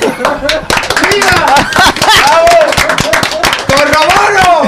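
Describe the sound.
An audience claps in a dense, steady patter of loud, sharp hand claps, with voices shouting and talking over the applause throughout.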